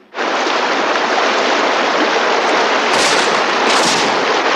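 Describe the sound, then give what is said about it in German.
A loud, dense barrage of gunfire from the opposite riverbank merges into a continuous roaring wash, with a couple of sharper bursts cutting through near the end. No voices are heard. “Woher kommen diese Schüsse?”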